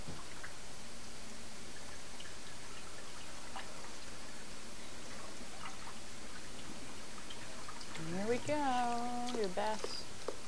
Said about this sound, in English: Water's leaking out of the tub.